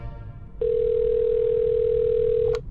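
A steady telephone dial tone hums loudly for about two seconds as a call is placed late at night to the caller's sister, ending with a faint click as the line connects.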